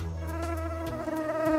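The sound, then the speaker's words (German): A mosquito's thin, continuous buzzing whine hovers very close, steady and fairly loud for the whole moment, its pitch wavering slightly, with no voices. “die stechen ja nicht nur, sondern auch dieses ekelhafte Summen.”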